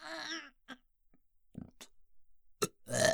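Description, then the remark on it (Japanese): A drawn-out, strained moaning voice of a person straining to pass a bowel movement, then a brief low guttural burp among a few short scattered noises, ending in a louder breathy rasp. “あ、ごめん、うんち気張りすぎちゃってついゲップを出しちゃったな。”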